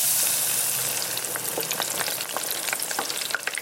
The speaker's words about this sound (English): Cue the sizzle.